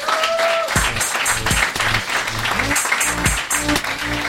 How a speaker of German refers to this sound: Applaus!